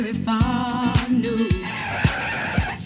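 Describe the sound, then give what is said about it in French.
A car's tires screech in a long, loud skid, a sound effect in a music piece foreshadowing an accident; the shrill squeal wavers in pitch while regular low thumps pulse underneath, with no crash heard at the end. “Le bruitage suivant laisse présager un accident.”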